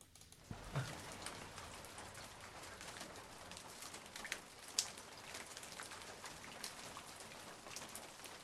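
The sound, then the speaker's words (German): Steady rain patters and water drips from the surrounding trees in a wet forest and from a raincoat, with scattered drops tapping leaves and a dove cooing faintly in the background. “Das Wasser tropft von den Bäumen, die uns umgeben, ebenso wie inzwischen auch von unserem Regenmantel.”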